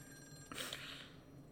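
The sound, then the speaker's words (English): A telephone bell rings once, a bright metallic jangle that bursts in suddenly and lingers briefly, clear with no voices over it. “Alright, I'll get up. Better be Charles Bronson on the phone.”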